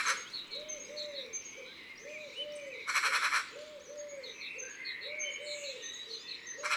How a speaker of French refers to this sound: Ce n'est pas très mélodieux, la pie. Surtout ce genre de cri d'alarme.